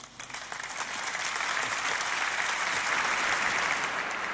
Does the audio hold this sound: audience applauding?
yes